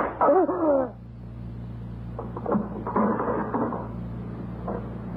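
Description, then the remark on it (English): A stiff, sticking cupboard door is forced open: a loud creaking squeal at first, then a few rattling knocks and scrapes as it gives way, over a low steady hum. “This door is sticking.”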